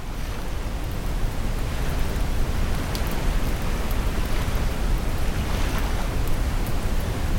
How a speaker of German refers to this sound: Das Lagerfeuer harmoniert mit den Wellen. Mit jedem Knistern erzählt es Geschichten von fernen Orten und Abenteuern.